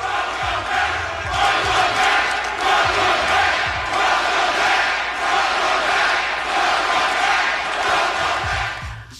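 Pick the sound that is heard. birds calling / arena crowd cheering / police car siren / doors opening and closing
arena crowd cheering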